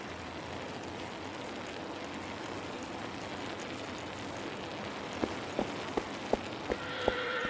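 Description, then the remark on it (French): Steady rain-like hiss throughout, then a pony named James stamps about six times in sharp, evenly spaced thuds near the end, with the start of a high, tonal whinny right at the close. “James le poney crut qu'on venait lui tenir compagnie. Il piaffa, souffla, hennit.”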